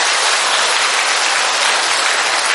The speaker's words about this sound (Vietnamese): Vui không? Vui không? Vui thì cho một tràng pháo tay thật lớn thưa anh chị em.